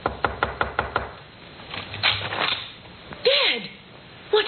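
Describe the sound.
About six quick, evenly spaced raps on the door of a room in a house at 2 a.m. ring out sharply, then give way to softer shuffling and a brief gliding, voice-like sound.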